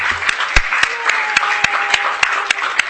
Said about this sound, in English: Another round of applause for our awesome panelists.